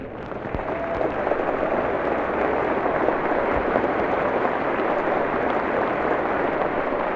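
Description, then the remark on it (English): A large audience in the House of Representatives stands and applauds as President Truman walks down the center aisle escorted by a congressional committee, a dense, steady roar of clapping that holds at an even, loud level for the full seven seconds, with no voices breaking through. “Everyone stands and applauds as President Truman, flanked by the committee from each House of Congress who were delegated to escort him, walks down the center aisle.”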